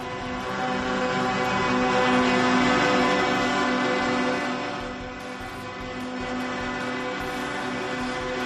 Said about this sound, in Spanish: Es el sonido de los claxon de los camiones que un día más, y ya van 11, vuelven a protestar para exigir medidas concretas al gobierno que solucionen la crisis del sector por la subida de los precios.